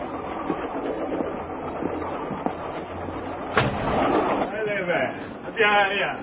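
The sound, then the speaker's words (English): A steady rumble of a train interior rolling along the rails, with a low droning hum underneath and a brief clattering surge midway, followed by chirpy, warbling sounds near the end. “I certainly hope there's enough space on the train for me.”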